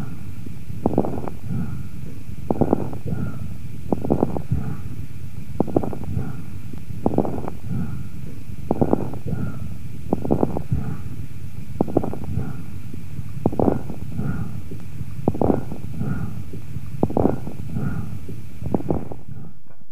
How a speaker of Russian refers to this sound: Поэтому этот тип дыхания представляет собой грубый высокочастотный шум, выслушиваемый в обе фазы с преобладанием выдоха. Прослушайте бронхиальное дыхание у больного с правосторонней крупозной пневмонией первой стадии заболевания.